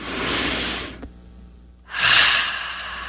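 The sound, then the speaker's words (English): Two long, deep breaths: a slow airy inhale, a brief pause, then a fuller, louder exhale, with no talking. “It's something that I have trouble with is just breathing.”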